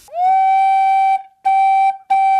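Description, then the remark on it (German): A flue organ pipe with a recorder-like tone, a sharp jet of air directed at its lip edge, sounds one steady pitch three times: a long sustained note, then two shorter ones after brief gaps. Loud, with no voices. “Es gibt also einmal Orgelpfeifen, die funktionieren im Prinzip wie eine Blockflöte. Da ist also ein Labium, also eine Schneide, auf die ein scharfer Windstrahl gerichtet ist.”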